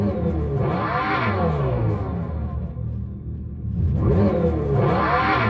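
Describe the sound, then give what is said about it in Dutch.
A fake exhaust sound from an electric Dodge Charger revs up twice, rising in pitch with a buzzy, synthetic drone and a steady low rumble in between. Loud, with no voices. “Het slechtste uitlaatgeluid wat je maar kan bedenken. Terwijl die Dodge Charger is best een mooi ding.”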